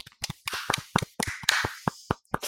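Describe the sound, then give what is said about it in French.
A round of applause: a steady patter of sharp, crisp hand claps at an uneven rhythm, moderately loud and continuing for a couple of seconds with no voices. “Troisième salve d'applaudissements.”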